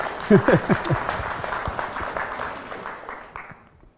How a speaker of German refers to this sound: das gebührt einfach ein Applaus erstmal an Philipp